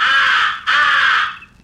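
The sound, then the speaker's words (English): Two harsh, drawn-out crow caws in quick succession, loud, the second trailing off into a fading rasp: the command call of a flock leader getting its flock ready to move. No other sounds around them. “It is merely the voice of a flock leader getting his flock ready for movement.”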